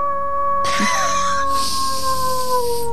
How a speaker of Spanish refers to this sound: Ese parece un lobo, ¿eh? Me parece que se están confundiendo la fauna.